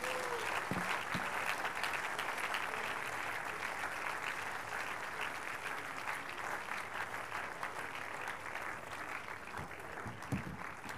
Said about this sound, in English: Shall we please rise onto our feet this morning? Give the Lord the greatest clap of praise.